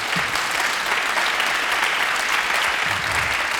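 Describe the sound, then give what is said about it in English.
A crowd claps steadily and loudly throughout in tribute to the musician, a dense, even wash of many hands with no pauses and no voices on top. “You can clap for …. I know you want to.”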